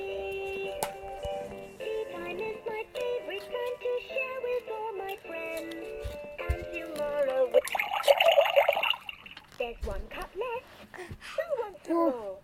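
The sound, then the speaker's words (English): A short burst of tea pouring from a pot into a cup, a splashy trickle lasting about a second, set against a sung, musical voice that carries on before and after. “Let's go down and pour a cup.”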